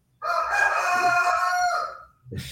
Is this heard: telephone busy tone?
no